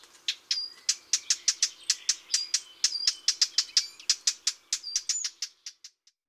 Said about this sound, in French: La fauvette à tête noire lance aussi de longues séries de tac-tac-tac qui ressemblent au bruit de petits cailloux frappés l'un contre l'autre. Le rouge-gorge, le troglodyte, la fauvette à tête noire.